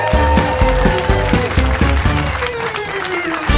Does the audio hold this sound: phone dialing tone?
no